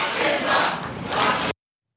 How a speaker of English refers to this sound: And the crowd goes wild. Lock him up, lock him up.